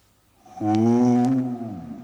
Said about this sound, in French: Puis ce fut un hurlement dans la montagne.